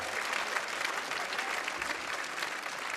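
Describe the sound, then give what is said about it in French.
A concert crowd applauds the musicians as they are introduced at an evening show organized by RTL2. It is a dense, continuous patter of many hands clapping at an even, fairly loud level for the whole stretch, with no voices rising above it. “je vous présente mes musiciens, vous pouvez déjà applaudir.”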